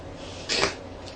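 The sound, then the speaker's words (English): A single short, breathy meow, likely voiced by a person imitating a robotic cat, rises and fades in under a second against a faint background hum. “Cat robotic. Meow.”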